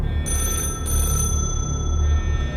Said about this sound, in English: So, as these guys are talking, you kind of like shh, listen, and you can hear coming from somewhere off to the right. You hear a phone ringing.